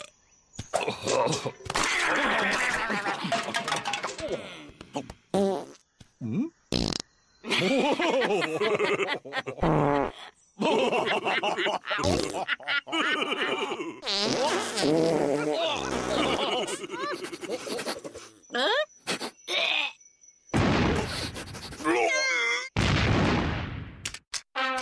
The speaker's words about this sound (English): Dinosaurs did fart themselves into extinction.